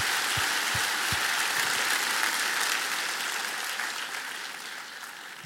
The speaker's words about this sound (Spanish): ¿Eres fuerte? Vamos a dar un aplauso fuerte. Somos fuertes, fuertes, fuertes, fuertes.